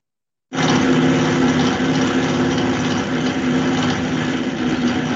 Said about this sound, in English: The microwave from Hell's replacement came, and I got it installed, so I'm not going to have to hear this sound anymore.